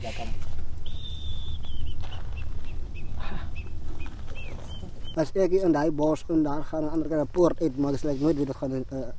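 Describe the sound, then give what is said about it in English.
A faint, thin bird call rises nearby over a low outdoor rumble during a hike. A Bushman man then answers with loud, warbling bird calls of his own, quick and rhythmic, imitating the bird. “calling the birds”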